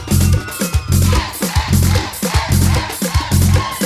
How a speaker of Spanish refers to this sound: Sonando las palmas con ganas.